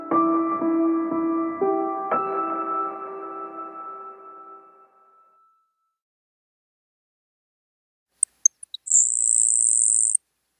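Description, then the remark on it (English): A swelling musical chord fades to silence, then a small songbird delivers a few faint high ticks followed by a thin, insect-like buzzing trill lasting about two seconds, clear. “It's nature's symphony, but it could be silenced.”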